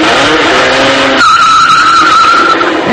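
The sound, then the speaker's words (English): A loud, sustained screech of car tires skidding as a crash sound effect, the shrill squeal shifting pitch partway through and holding steady to the end, with no voices. “Someone you know? Probably crashed into your car.”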